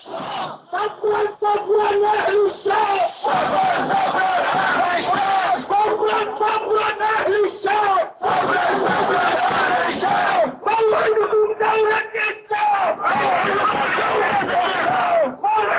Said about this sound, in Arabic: فالمتابعة وإياكم هذا البث المباشر مشاهدي الكرام الذي يأتينا من لندن من العاصمة البريطانية في مظاهرة حية ومباشرة لأحرار الجالية السورية في بريطانيا، فلنتابع.